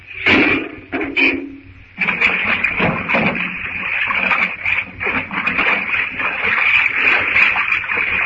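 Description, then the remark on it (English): A few short splashy bursts give way to a loud, continuous rush of water surging out through an opened door and churning, steady for several seconds with a faint high hiss running through it. “When the door opened, hang on till the first rush of water is over.”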